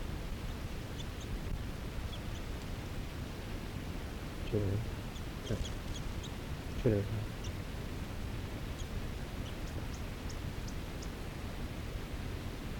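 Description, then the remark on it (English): A male wild bird about 6 feet away, eating snow near snowy water, gives faint, high chittering notes in short scattered bursts over a steady background hiss, broken by a few brief, low, muffled sounds. “Okay, this is chitter of a male I'm on, about 6 feet away from.”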